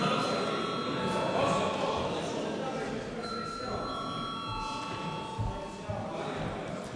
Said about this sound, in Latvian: Tādā gadījumā lūdzu zvanu.